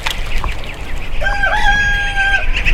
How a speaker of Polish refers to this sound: prowadzą hodowlę drobiu.